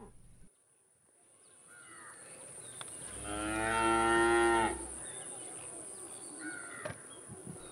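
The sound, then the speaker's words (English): A single long, loud cow moo rises and falls over a couple of seconds, set against a steady high insect drone and faint outdoor farm ambience. “Like many small-scale farmers, they were facing hard times, and eventually, Jack's mother suggested, reluctantly, that he should take their prize cow to market and use the proceeds to buy new seeds and animals.”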